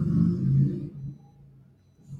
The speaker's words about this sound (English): I'll wait till the person with the loud engine goes by.